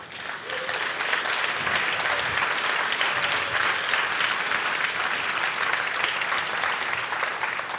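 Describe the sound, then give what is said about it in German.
Sustained audience applause, a dense steady patter of many hands clapping at an even loudness for several seconds, with no talking over it. “Ich bitte um einen Applaus”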